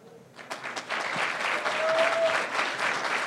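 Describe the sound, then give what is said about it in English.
A church crowd breaks into applause, starting with a few scattered claps and quickly swelling into steady, loud clapping that continues to the end. “I said, don't clap.”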